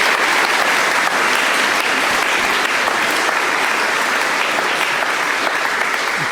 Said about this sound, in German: Großen, großen Dank an das Team Content. Bitte einmal kurzen Applaus für Team Content.